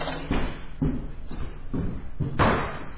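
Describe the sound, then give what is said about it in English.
A person arriving home: the front door bangs shut amid a series of dull, heavy thuds, ending with a louder thump of a bag dropping onto the floor. No voices, just low muffled impacts. “So I walk in, the door knocks, and then...”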